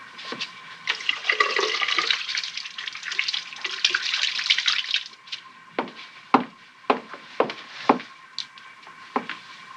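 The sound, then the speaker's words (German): Water runs steadily from a tap for several seconds, then stops, leaving a string of sharp splashes and drips as a woman rinses and shakes her hands. No voices. “Sie setzt die Kartoffeln auf den Herd, es klingelt, sie wäscht sich die Hände, zieht die Kittelschürze aus, geht an die Tür, öffnet.”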